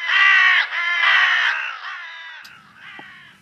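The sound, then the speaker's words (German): A crow caws loudly, four harsh, drawn-out calls in quick succession, the last ones a little softer, with no one speaking. “Es gibt sogar Informationsnachmittage für das Personal und auch für Patienten über Krähen, wie sie leben, wie gescheit sie sind.”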